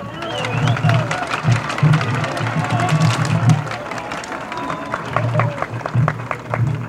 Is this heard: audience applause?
yes